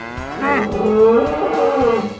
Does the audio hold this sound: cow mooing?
yes